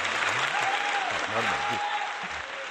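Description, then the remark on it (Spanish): A crowd on the COPE radio programme claps steadily in a dense, continuous wash of applause for a reflection just made, with a few voices talking and calling out underneath throughout. “Y no lo habéis aplaudido.”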